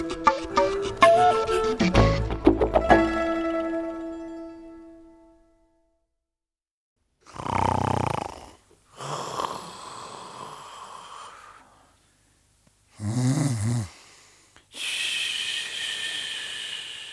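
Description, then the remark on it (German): After a brief ringing musical tone fades, a person snores: two rattling, snorting inhales, each followed by a long, breathy, hissing exhale. No one speaks. “Da schnarcht einer und das nervt.”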